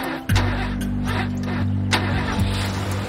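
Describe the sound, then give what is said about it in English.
A blue truck's engine cranks and catches after a brief pause, then settles into a steady, low rumbling idle that hums on with no voices. “Luke walks up to a blue truck and gets in.”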